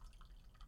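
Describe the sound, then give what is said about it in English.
Hot tea poured from a thermos to refill a drink, heard as a faint, brief liquid trickle with a couple of soft, higher-pitched drips. No one speaks. “Just to be clear, I'm refilling my tea.”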